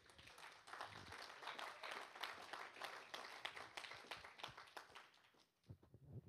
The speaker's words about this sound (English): Give him a little round of applause.